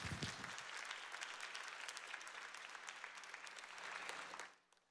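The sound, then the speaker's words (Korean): A church audience bursts into sustained applause for a newly arrived pastor's first sermon, a dense, steady clatter of many hands clapping that holds evenly for over four seconds before quickly fading out. No one speaks. “우리 첫 설교인데 우리 박수를 한번 모시겠습니다.”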